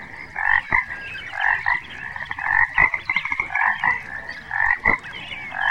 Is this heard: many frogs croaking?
yes